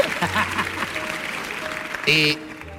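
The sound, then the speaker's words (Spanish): An audience claps in a steady, dense patter of many hands, moderately loud, with voices calling out over the applause and a brief louder burst near the end. “Bien, ahí se merece un aplauso desde el final, ahí, eso es lo que estaba buscando.”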